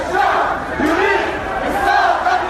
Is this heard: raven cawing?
no